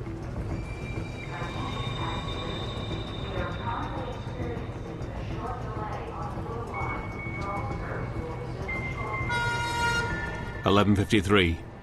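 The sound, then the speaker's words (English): A subway train, no more than half full of people, rumbles steadily into a station, high metallic brake squeals whining above the low roar, ending with a loud harmonic horn blast and a few heavy clanks. “the subway train rolls into the station, no more than half full of people.”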